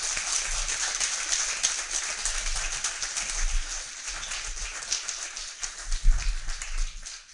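A church audience applauds the Lord with steady, dense clapping that fills about seven seconds, holding an even level with a brief swell toward the end and no voices on top.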